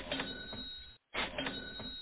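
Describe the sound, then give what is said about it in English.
A cash register's mechanical clatter and whir plays in two loud bursts split by a short silence, with no voices present. “That's the cha-ching going on at the cash registers because everybody is going out buying their Justin Fields jerseys now if they haven't bought them already.”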